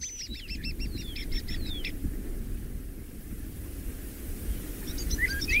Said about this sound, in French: Et les petits oiseaux qui chantent, c'est mignon, ouais.